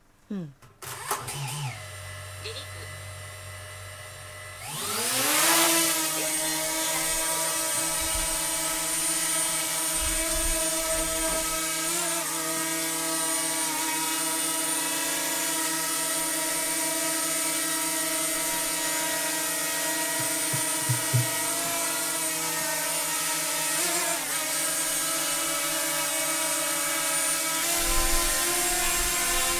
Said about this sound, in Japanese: このドローンなんですけど、 はい、 ご承知の通りドローンっていうのが最近いろんなところで使われるようになって、調査とか測量とか、あるいはこういうトイドローンみたいなおもちゃとして、あと空撮ね、